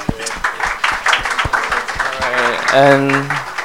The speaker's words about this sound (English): Let's give a clap to the Lord.